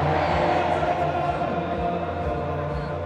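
A large crowd of mourners chants in unison for Iran's new supreme leader, Sayyid Mujtaba Khamenei, a dense, steady roar of many voices that stays loud and unbroken throughout, with no single speaker standing out.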